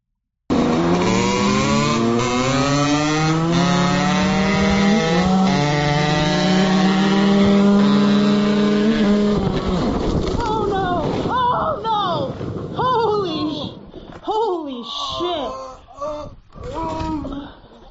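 A racing car engine drones loudly, its whine climbing steadily in pitch, then gives way halfway through to a chaotic burst of screeching, sputtering and clattering noise as the car wipes out.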